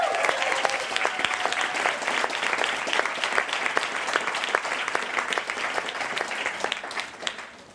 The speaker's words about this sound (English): Dr. Hooks joins us this week. Yeah, that's worth another applause.